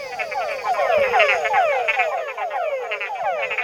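A chorus of male túngara frogs, small inch-and-a-half-long frogs, calling at dusk in a forest with pools of water: overlapping downward-sweeping whines repeating rapidly and steadily, several frogs at once, fairly loud with no talking.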